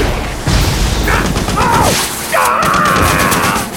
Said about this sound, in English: Gunfire tore into the ice in front of Rourke, and as he tried to turn away, an energy burst struck the side